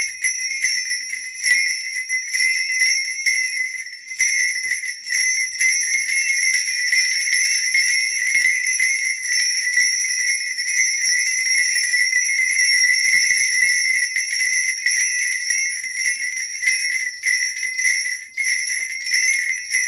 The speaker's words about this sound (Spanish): Entonces, muchos dicen que el sonido interior que hace cuando se mueve emula la lluvia, ¿no? Así que, si les parece, vamos a escuchar un poquito cómo suena la cascahuilla.